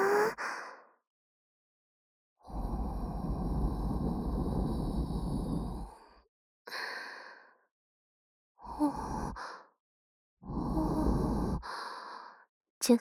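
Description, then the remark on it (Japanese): Soft, breathy exhales right up against the microphone, a few long airy breaths separated by silences, with shorter puffs between them and no words spoken. “お耳もたっぷりたっぷり吐息で甘やかしまっちゅよ。”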